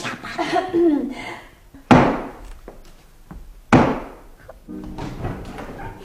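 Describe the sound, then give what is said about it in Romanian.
Two loud, heavy knocks on the door of a newly built house, spaced nearly two seconds apart, each ringing out briefly, with faint voices and background sounds murmuring before and after. “Acum batem la ușă.”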